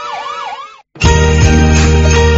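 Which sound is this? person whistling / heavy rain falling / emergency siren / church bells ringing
emergency siren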